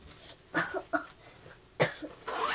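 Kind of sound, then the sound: human body sound, baby coughing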